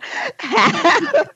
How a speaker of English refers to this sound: Was that a snort